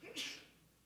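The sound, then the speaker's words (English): A single short sneeze, a sharp hissy burst that fades quickly, with no talking over it. “God bless you.”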